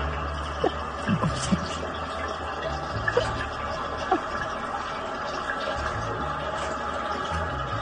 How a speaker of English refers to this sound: Hang on, it's still that last flush. Wow. It's very noisy. Sounds like a vortex.